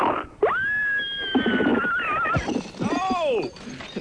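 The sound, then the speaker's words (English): A woman imitates a baby pig's squeal over the phone, using both hands: loud, shrill, wavering cries held for several seconds, ending in a couple of shorter, rising-and-falling squeaks. “Okay, I'm going to do a baby pig.”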